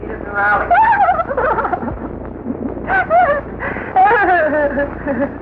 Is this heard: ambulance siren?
no